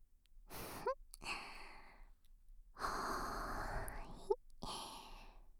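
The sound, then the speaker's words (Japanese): A woman slowly blows out warm, airy breaths, four soft whooshing exhales in a row with brief pauses between them. There is no talking. “それじゃ、勃起ちんぽが柔らかくなるようにお姉さんがふーふーってしてあげます。”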